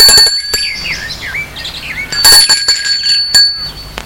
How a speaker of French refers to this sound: Va vers la maison. Il sonne à la porte.